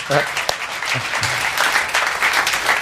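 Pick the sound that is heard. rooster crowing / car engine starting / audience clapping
audience clapping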